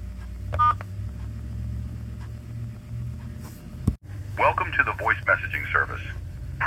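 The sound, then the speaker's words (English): A brief touch-tone keypad beep as a 10-digit phone number is entered into an automated voicemail phone system, over a low steady hum, followed a few seconds later by a stretch of muffled, voice-like sound on the line. “If you have a mailbox on this system and would like to access it now, enter your 10-digit phone number, then press pound.”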